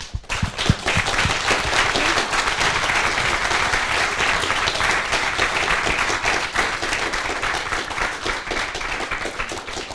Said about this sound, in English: So I want to thank you for your really nice talk and ask for a big round of applause.